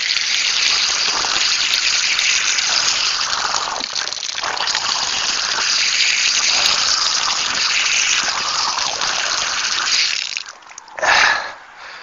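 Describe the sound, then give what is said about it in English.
Loud rushing and splashing of water as a runner gets water at a water stop during a run, steady for about ten seconds, then it briefly drops away before one short final gush. No one speaks. “That is the second time I've gotten water.”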